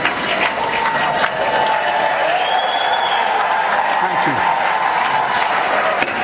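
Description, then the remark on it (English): Sustained applause from a large crowd in the chamber as the president approaches the dais, a dense, steady roar of clapping that holds at an even loudness for the whole stretch, with faint voices mixed underneath. “So the president is getting closer to the dais. The applause is not”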